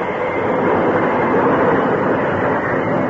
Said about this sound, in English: As with the help of the engineer, he applied the brakes and found the train coming to a stop.